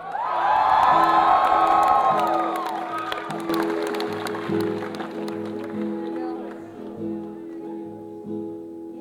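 A large crowd roars with loud cheers, whoops and scattered clapping, peaking early and easing slightly over nine seconds, with steady low tones humming underneath.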